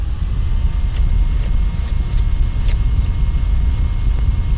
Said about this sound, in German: Aber irgendwann ist der Staubsauger voll.